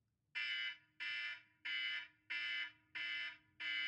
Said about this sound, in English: No, is it ringing? Can you hear nothing? No. Okay, there's like a DEFCON 1 bell going off. That's to save people who've not turned their phones on silent.